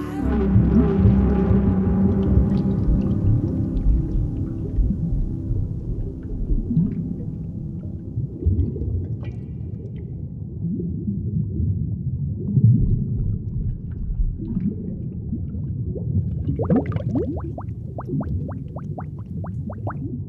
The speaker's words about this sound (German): Das klingt eher, als wärst du seekrank. Vielleicht spricht der Buckelwalisch.